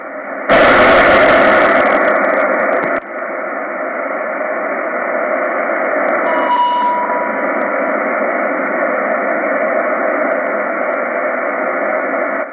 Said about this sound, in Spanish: Hemos podido ver perfectamente cómo se escuchaba ese ligero pitido, ese pip.